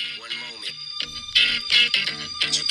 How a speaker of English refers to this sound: That's a good alarm. That is a good alarm. I'm using that.